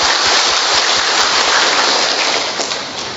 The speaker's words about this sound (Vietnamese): Ở đây chúng ta có nhóm thiện nguyện Tín Thác. Chúng ta chúc mừng tất cả những người thiện nguyện một tràng pháo tay thật lớn thưa anh chị em.